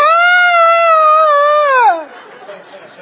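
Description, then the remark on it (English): An audience, asked to imitate frightened screams, lets out a loud, high-pitched sustained scream for about two seconds, the pitch sliding down as it breaks off into scattered crowd noise. “Now we want to hear you scream. That's exactly the way they sounded.”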